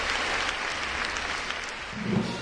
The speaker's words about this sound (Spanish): Anoche, junto a la reina Letizia, disfrutó del concierto que ofreció la OSPA en el Auditorio de Oviedo. Aplausos para recibir a los monarcas.